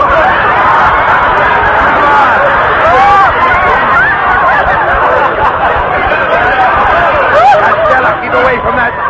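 A dense crowd hubbub at a railway ticket office: many overlapping voices chattering at once in a steady, loud babble with no single speaker standing out, the murmur holding level throughout.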